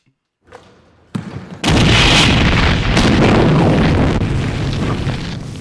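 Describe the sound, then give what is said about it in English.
A low rumble builds, then a huge explosion bursts in and roars on for several seconds, a dense crashing blast that slowly tails off as a building is blown apart, with debris flying through the air. “That explosive dunk blew the building apart.”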